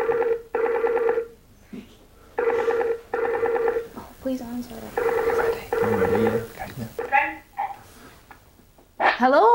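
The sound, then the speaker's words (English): A telephone ringback tone repeats its double-burst pattern several times, steady and fairly loud, as a woman places a phone call to another woman, while quiet voices murmur briefly in the pauses between rings. “She's calling her now.”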